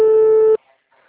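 A single steady, buzzy ringback tone from a phone line, a call to Hospital de Miracema in Tocantins that no one answers, sounds for about half a second and then cuts off into near silence, with only faint noise afterward.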